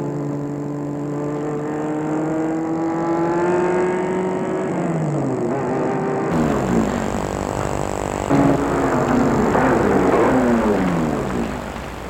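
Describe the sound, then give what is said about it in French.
A car engine hums, its pitch rising and falling as it slows and revs, with a steady droning tone and no voices, as the car stops in front of a company's entrance, a large gate. “La voiture s'est arrêtée devant l'entrée qui est un grand portail de l'entreprise.”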